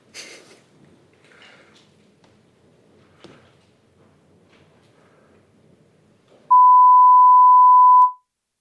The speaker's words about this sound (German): Das heißt, dass wir kurz die Anlage einmal neu starten. Das dauert ungefähr 10 Sekunden. Auf den Sendern werden Sie einen Testton hören.